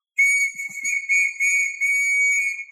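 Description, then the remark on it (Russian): A shrill, trilling whistle, given as a gift, is blown loud in a few warbling bursts that run together for about two and a half seconds, with no voices. “Свисток? Теперь ты можешь свистеть своему Бимбо.”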